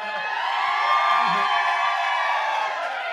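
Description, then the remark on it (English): A live audience in Providence, Rhode Island cheers and whoops in a sustained, dense roar of voices, with scattered high shouts rising above the steady wash of crowd noise for the whole span. “Anytime I'm feeling nervous on stage, I'll go, Providence, Rhode Island, make some noise.”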